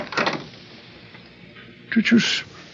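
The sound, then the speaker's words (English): A brief rattle near the start, then after a quiet pause a louder creak and scrape as the door of a bare, vacant room swings open on its own, with no one talking. “The door opened by itself.”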